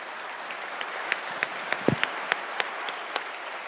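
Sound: round of applause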